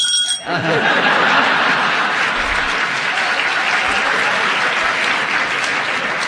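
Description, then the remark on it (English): A radio show audience bursts into sustained applause, dense steady clapping at full volume for several seconds after a brief opening moment, with no voices rising above it. “Another look, another round of applause, another big laugh.”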